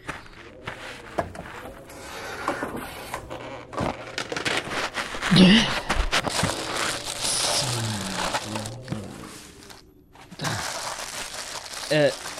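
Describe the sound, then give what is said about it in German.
A plastic tarp from the back of a car is shaken out and crinkled, producing a steady stream of loud rustling and crackling for several seconds, with brief muffled voices now and then. “Als erstes braucht man so eine Plastikplane. Hinten im Auto müsste eine liegen.”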